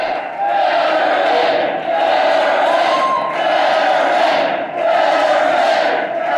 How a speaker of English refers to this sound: Fetterman spends a few moments taking it all in, as if taken aback as the crowd of around 1,000 supporters chant his name.